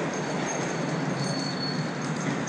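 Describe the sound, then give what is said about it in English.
A steady, dense roar of subway trains rolling past on the right of a person walking toward stairs, with faint high metallic squeals from the wheels running through it. The rumble stays constant and loud throughout, with no talking. “And you can now hear the trains as well. Subway trains on my right.”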